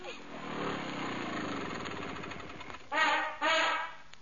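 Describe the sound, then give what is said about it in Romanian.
A voice imitates a car engine running as the car is pulled up to the stairs to go home, a steady rattling rumble that rises and falls, then two louder revving bursts near the end, fairly loud. “Hai că am tras mașina la scară să mergem acasă.”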